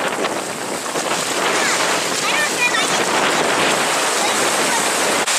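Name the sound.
ocean waves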